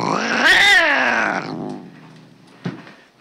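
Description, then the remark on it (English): A cat lets out one loud, harsh scream lasting over a second, its pitch rising then sliding down before it fades, followed by a short dull thump. The cat screams because its tail was accidentally caught in a door. “I heard her screaming. Well, I accidentally caught her tail in the door.”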